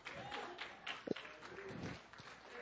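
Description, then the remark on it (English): Faint, scattered clapping from an audience, a soft patter of many hands that stays quiet and fairly even throughout, with a few murmured voices mixed in. “You'd clap louder if you saved $3,000.”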